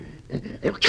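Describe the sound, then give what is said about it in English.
Short snuffling, growly breaths build into one sharp, explosive sneeze at the end, loud, from Carmichael the bear, who has a bad cold, probably imitated by a human voice. “Gesundheit.”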